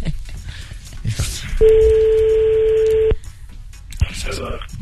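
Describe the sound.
A single steady telephone tone sounds loudly for about a second and a half, clear, as a call is placed to a mother, with brief bits of voice before and after it.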